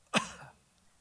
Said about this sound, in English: We'll just all cough.